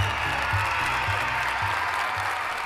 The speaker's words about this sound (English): Thank you, and everyone, the man in charge of making sure you all have a good time, a big applause for Cruise Director Kabir!